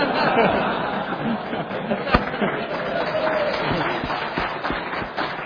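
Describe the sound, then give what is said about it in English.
An audience claps in a steady, dense patter that lasts the whole stretch, mixed with murmuring voices and scattered laughter, with one sharper clap standing out partway through. “And all of you who just clapped, I'm taking names.”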